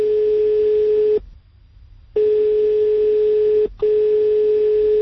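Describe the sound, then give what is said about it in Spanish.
A steady electronic telephone ringback tone on an outgoing call that goes unanswered, sounding in long bursts with short pauses between them, loud and clear through the line, with no voices present. “He dejado que suene ese veces el teléfono, porque claro, es el número del día, del fin de semana.”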